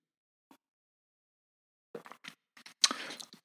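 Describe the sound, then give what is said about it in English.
A faint tap of a coffee cup, then after a pause a few soft mouth sounds build into a short slurping sip of coffee as the cup is lifted. No one speaks. “And now I'm adding an accessory one, which is lifting the coffee cup and having a sip.”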